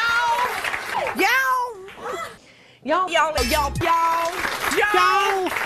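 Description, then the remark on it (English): A voice repeatedly stretches out the word "y'all" into long, whiny, rising-and-falling wails that imitate a cat's meow, several times in a row, loud, with brief chatter between. “Y'all. It's like a cat.”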